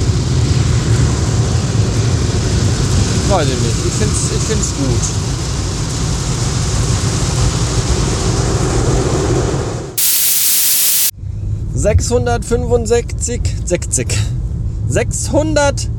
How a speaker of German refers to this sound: Ich mag Durchfahrwaschstraßen, drin sitzen bleiben und ja, es ist sehr laut, es hat aber auch eben so ein bisschen was Entspannendes, Beruhigendes.